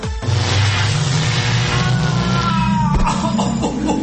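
A loud sci-fi time machine sound effect powering up: a deep droning hum under a rushing whoosh, with rising electronic tones that build for a few seconds before a sudden thud and a shift in the whirring.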